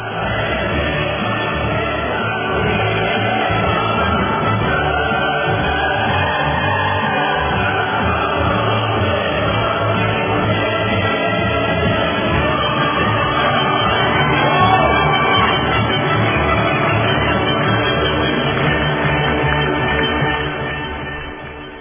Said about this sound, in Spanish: Démosle los aplausos, el himno de la alegría, a esta valiente abogada,